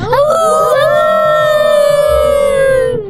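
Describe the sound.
Several voices howl together in a sustained, rising wolf-like wail, imitating wolves. The loud, drawn-out chorus holds steady for about three seconds with a few overlapping pitches.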